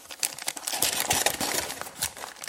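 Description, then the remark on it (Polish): Paper packaging crinkles and crumples in quick, irregular bursts, a steady crackling rustle of someone unwrapping what seems to be a power supply wrapped in paper, with no voices over it. “Chyba to jest zasilacz takim... Za takim papierowym.”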